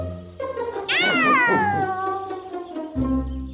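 A single drawn-out cat meow, loud, sliding downward in pitch over a couple of seconds, with a low background hum underneath and no one speaking.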